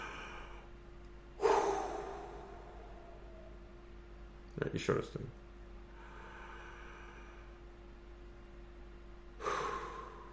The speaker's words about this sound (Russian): Дышите глубоко.